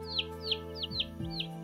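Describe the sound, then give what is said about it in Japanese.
A series of five or six bright, descending chirps from small birds repeats at a quick, steady pace over a faint low hum with no one talking. “すぐに小鳥がやってきたとさ。”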